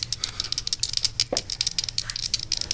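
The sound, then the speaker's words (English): A D20 and a regular die are rolled, rattling and clattering in a quick, irregular stream of sharp clicks lasting a few seconds, moderately loud, with no one talking. “So for this last part, we are going to roll the dice and have you read a sentence from the page and line.”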